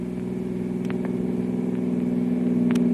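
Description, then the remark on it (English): The engine of one of two cars racing on a road, one forcing the other toward the roadside, drones steadily with a strong low hum and slowly rising loudness, punctuated by a few brief higher-pitched clicks or squeaks, with no voices. “Well, they're racing.”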